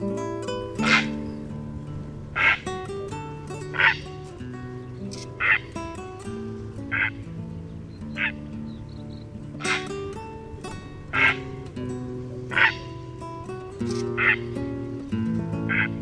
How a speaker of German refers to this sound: Das war der Purpurreiher.